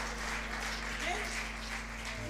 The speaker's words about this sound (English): Denle un aplauso fuerte al Señor. Give a loud clap to the Lord. Amen.